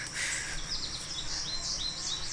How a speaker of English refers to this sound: And birds singing, despite the noise.